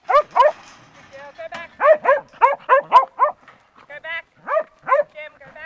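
A two-year-old working Kelpie named Jem barks loud in quick bursts while being put through training in a sheepyard in southern New South Wales, a dozen or more sharp, yelping barks in uneven clusters with brief pauses between, some rising in pitch like excited yips.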